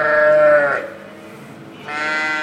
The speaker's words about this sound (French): Là, elles vont commencer à s'énerver, ben, c'est l'heure du casse-croûte. Et là, une brebis, ça a vraiment une pendule dans la tête. Si on a un quart d'heure de retard, elles nous font vite comprendre.